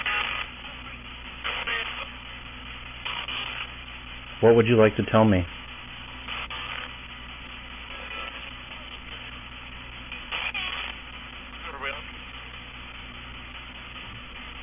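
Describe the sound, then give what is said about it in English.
A spirit box radio scans rapidly through stations, spitting choppy bursts of static and broken voice fragments with one louder burst midway, while a person asks a question over it. “this next clip is from the same spirit box connected to a noise reducer so you don't hear the static sounds as it cycles through the frequencies”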